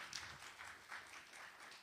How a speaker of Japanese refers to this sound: もう一度盛大な拍手をよろしくお願いいたします。